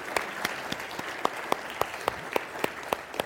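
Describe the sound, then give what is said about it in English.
A church audience applauds the salvation of the Lord at the end of a prayer, its steady clapping falling into a regular unison rhythm, with sharp beats about three or four per second over a dense wash of hands. No voices are heard. “By the way, what you do to clap at the end is scriptural.”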